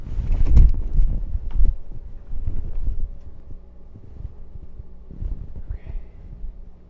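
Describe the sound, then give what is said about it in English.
Clothes being taken out of a basket and loaded into a dryer in a laundry room: soft, irregular rustling and muffled fabric thumps come in uneven bursts, strongest at the start and fading to quieter handling noises, with no voices. “I'm just gonna take them out of the basket and put them in the dryer.”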